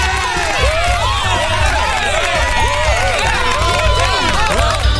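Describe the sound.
A crowd cheers and claps continuously, many voices whooping and shouting over a steady wash of applause, loud and dense throughout with a low rumble underneath.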